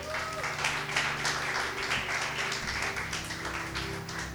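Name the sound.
audience applauding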